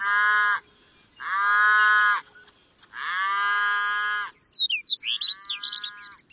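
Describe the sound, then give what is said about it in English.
Cattle moo three times in long, loud, drawn-out calls, followed by a burst of bright bird chirps and a shorter low moo blending with the birdsong. “And grassland birds need every bit of help they can get, even from cows.”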